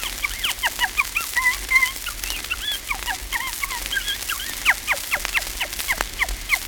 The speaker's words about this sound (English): The tiny wood or barn owl chuckles all through the early night.